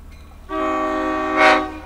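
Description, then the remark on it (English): A slow-moving diesel train, going about 3 miles an hour, crosses the tracks right in front, sounding a loud, sustained horn blast over a steady low engine rumble, with a brief hissing swell near the end. “Oh, the train's coming right in front of us. You might be able to hear the sound of the diesel there.”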